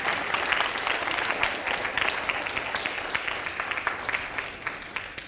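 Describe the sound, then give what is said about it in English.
Sustained applause from a church audience during a sermon, welcoming Jesus as king. It is a dense, steady wash of many hands clapping at once, fairly loud and even throughout, with no voices standing out. “If Jesus is your king, just give him a round of applause and just welcome the king.”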